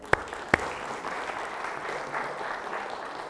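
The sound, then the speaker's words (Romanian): An audience breaks into steady applause, a dense patter of many hands clapping at an even level throughout, opened by two sharp, louder claps at the start. “să-l aplaudăm!”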